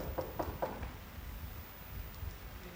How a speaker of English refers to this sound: Can you hear the knock on your door? Because Jesus is standing outside.